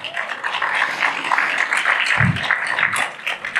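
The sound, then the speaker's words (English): An audience claps steadily for a few seconds, a dense, even patter of many hands with a brief low thump partway through. “Let's give them a round of applause first, actually.”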